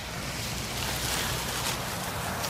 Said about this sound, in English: That was a mini gust, and as with kite flying, patience.